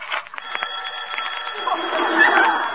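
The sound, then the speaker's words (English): A telephone bell rings in a continuous rattling trill for a few seconds, fairly loud, with a slightly muffled, busy texture underneath. “It's the phone ringing.”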